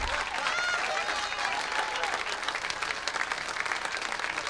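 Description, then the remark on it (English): A crowd applauds steadily, dense clapping holding at an even, fairly loud level throughout, with a few faint voices and cheers mixed into the wash of hands. “Now, help us again here, ladies and gentlemen, by applause.”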